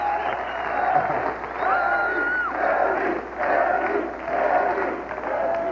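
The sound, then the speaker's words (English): A studio audience cheers loudly and continuously, laughing, standing and cheering for Chevy, with whoops and shouts rising above a dense wall of crowd noise that swells in waves throughout. “Yeah, you can tell the audience has been primed to, like, oh, just laugh and stand up and cheer.”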